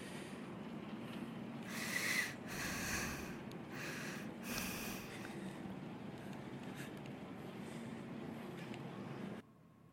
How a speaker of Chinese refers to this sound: 来，我们来进行一个探险环节，探灵环节，或者说，这是由前方记者发来的谍报。就配上这个喘息声